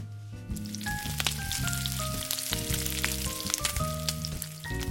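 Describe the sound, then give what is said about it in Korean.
Bacon sizzles steadily in a hot pan in a kitchen, being fried for carbonara, a dense continuous crackle with sharp pops scattered throughout, fairly loud, with soft music playing underneath. “베이컨을 볶는 동안 동생이 잠시 구시렁댔지만 이내 다른 화제거리로 넘어갔다.”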